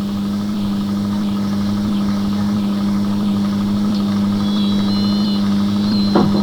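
A car engine runs steadily at idle with a constant low hum and slight vibration, fairly loud, with a faint high whine near the end and no talking.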